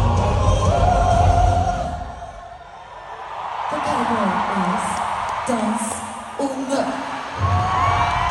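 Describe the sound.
A loud crowd at a pop concert cheers and screams continuously, with one voice letting out sustained yells and whoops over the roar and faint music underneath.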